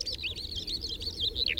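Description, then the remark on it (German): A skylark, a small ground-nesting bird, sings a continuous, rapid stream of high chirps and trills, fairly soft and steady throughout, over a faint low background rumble, with no voices. “Ihr Zwitschern und Trällern.”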